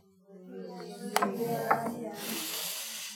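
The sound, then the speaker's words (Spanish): Rain beginning to fall in Cusco: a soft, steady hiss swells over a few seconds, with a couple of sharp ticks and a low, murmuring hum underneath. “Ya empezó a llover.”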